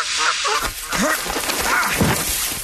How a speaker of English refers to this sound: all I see are wild geese. Oh, very wild.